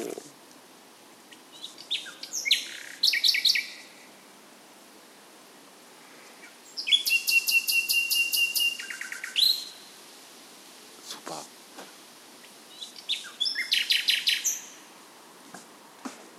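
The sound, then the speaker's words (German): A bird sings at night in three bright bursts of high, rapid trilling and whistled notes, separated by short pauses, over a soft hiss with a few faint clicks. “Aber ich meine, was macht der da die ganze Nacht? Der macht, was alle machen. Der twittert.”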